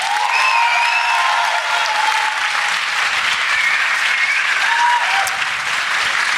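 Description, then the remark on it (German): Sustained applause from an audience for "the perfect start to the new year", a dense, steady wash of clapping at even loudness throughout, with faint cheers and whistles threading through it and no speech. “Und jetzt euer Applaus für den perfekten Start ins neue Jahr.”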